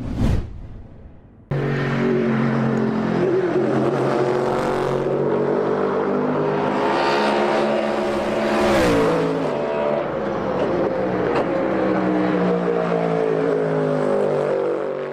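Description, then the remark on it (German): A powerful V8 engine of a GT3 pony-car race car roars, revving up and down in sustained, throaty bursts after a brief sharp start, loud and continuous with no talking. “V8, muss man wirklich sagen, dass das noch so wirklich in dem Sinne möglich ist in der GT3, da dürfen wir echt so ein bisschen stolz drauf sein, denn ja, so ein Ponycar hat es irgendwie auch verdient, diesen Sound zu”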